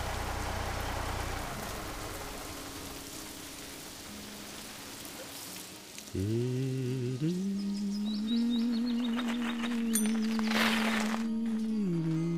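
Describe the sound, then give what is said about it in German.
Steady rain hisses throughout at moderate loudness. Partway through, a droning, idling engine hum joins and continues under the rain to the end, with no voices. “Das regnet doch.”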